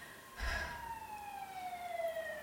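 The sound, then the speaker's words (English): An emergency siren wails with a long, slowly falling tone after a brief low thump, steady as it diminishes and drifts away over faint background noise. “The siren wails, diminishes, and we wait.”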